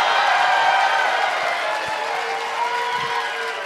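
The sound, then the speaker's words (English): An audience in Denver, Colorado claps steadily throughout, a dense, even wash of many hands with faint crowd voices mixed in, holding at a fairly loud, constant level for a few seconds. “Don't clap too hard.”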